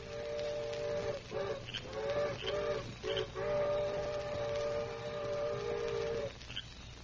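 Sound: distant steam train whistle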